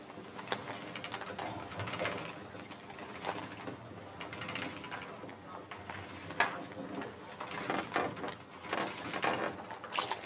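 A weaving loom clatters steadily in a workshop that weaves linen only for palace residents, its wooden parts knocking and ratcheting in a busy, repeating rhythm without pause.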